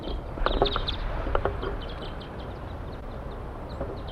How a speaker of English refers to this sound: A flock is calling from the treetops.